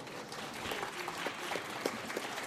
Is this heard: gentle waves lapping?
no